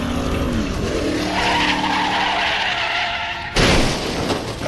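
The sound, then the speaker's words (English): Lance Macklin's Austin Healey race car brakes hard with a long, loud tire skid and engine roar, swerving into the path of a Mercedes doing 150 miles an hour, ending in an abrupt, harsh crash-like burst of noise near the end. “Macklin hits his brakes, but can't slow down in time. He has to swerve into the path of a Mercedes bearing down on him at 150 miles an hour.”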